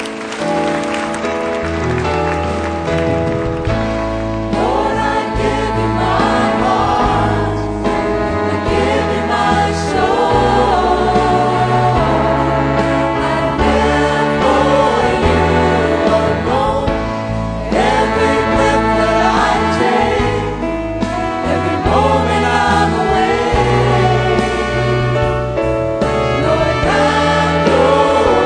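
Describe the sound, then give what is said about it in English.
A church audience claps and cheers steadily as a clap offering over loud, sustained worship music with organ and band, the applause a dense, continuous wash that lasts the whole stretch without pause. “You seal that to your hearts with a clap offering.”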